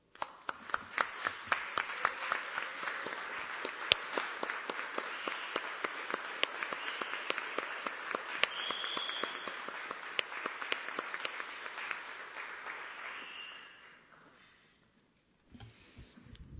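An audience applauds steadily for about fourteen seconds, a dense, even patter of many hands clapping that fades out, followed by a brief quiet and a faint noise at the end.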